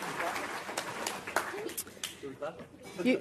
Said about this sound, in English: That's good sportsmanship to clap for the other team. Very, very good.